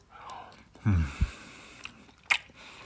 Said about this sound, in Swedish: Jag får smaska extra högt. Jag gör inte det annars. Det är fan det värsta jag vet när folk smaskar. Men jag menar om man ska äta i rad då får man ju smaska lite.